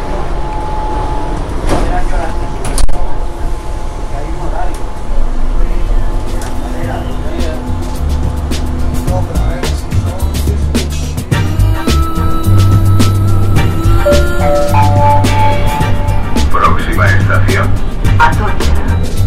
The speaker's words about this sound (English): Time to get on the metro. Sounds of the metro in Madrid. Here we are. It's just arrived in the station. Open the door. Get on and off we go.